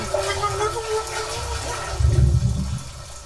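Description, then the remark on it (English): A toilet flushes with a rushing, gurgling whoosh of water that swells loudly near the end, then settles into a steady refilling hiss. No one speaks. “Oh, there's water filling.”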